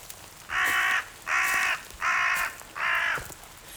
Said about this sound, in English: Crow, I see you. You don't scare me. Even if you have been following me for bloody miles.